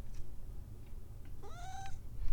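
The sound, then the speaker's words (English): A single clear cat meow, rising then held briefly, against a low background rumble, with a few faint clicks before it; the cat is playing with a bottle cap. “There's a kitty. Hi, what are you doing?”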